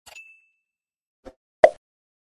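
A single bright bell ding rings out with a thin, lingering tone, followed after a pause by a soft knock and then a louder, hollow thump. No one speaks.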